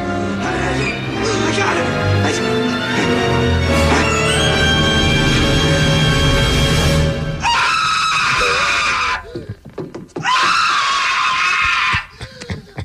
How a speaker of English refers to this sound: Do you remember the tarantula? Oh. When he put it on his face and he started screaming like a girl?